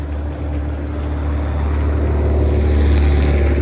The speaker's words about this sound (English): Damn, that car is loud.